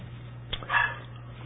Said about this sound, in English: Can you hear the dog? I mean, I'm just kind of like, why does that dog have to be barking? I think he's outside wanting to come in and nobody's there to let him in, I guess.